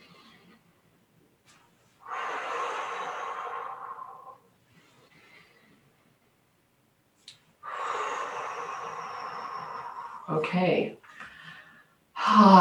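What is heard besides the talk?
deep breathing exercise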